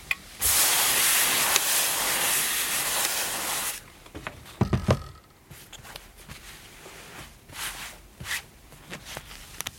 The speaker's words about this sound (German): Das ist ein Schnelldämpfer. Damit geht es halt schneller, eine kleine Menge Dampf zu erzeugen.